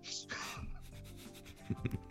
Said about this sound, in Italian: No, ti posso dire che è alta 1,5 cm ogni volume. Sì, per cui tenuto conto da sì, sarà, diciamo un 150 pagine. Per darti un'idea, i due volumi che cadono fanno questo rumore.